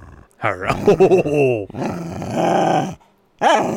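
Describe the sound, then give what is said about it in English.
A dog named Darla growls and grumbles in drawn-out, wavering vocal bursts that rise and fall in pitch, then goes quiet briefly before one last short grumble. “Darla said, you don't know there weren't dogs at the true. Manger.”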